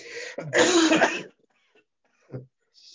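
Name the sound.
coughing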